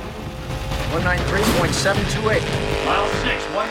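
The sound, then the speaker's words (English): An Indian motorcycle's engine roars steadily at high speed on the salt flats, still gaining speed at over 172 miles per hour, loud with a rough crackling edge, while voices talk over the din. “Still gaining speed, Bert zooms along, but the heat from the engine is beginning to burn his leg.”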